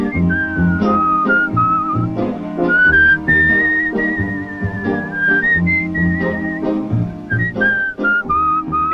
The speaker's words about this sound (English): But anyway, he also whistles. He has a whistling chorus that he does as the horse is taking him around the ring.